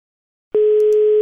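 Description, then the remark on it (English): After a short silence, once a phone call is hung up, a loud, steady electronic phone dial tone starts abruptly and holds at an even pitch. No one speaks. “Right, hanging up now.”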